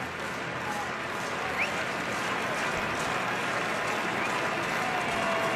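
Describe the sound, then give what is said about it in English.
A large baseball stadium crowd cheers and claps to encourage the pitcher before a 2-2 pitch, in a loud, steady roar that holds unbroken for several seconds, with no single voice standing out from the wash of noise. “Crowd trying to encourage him.”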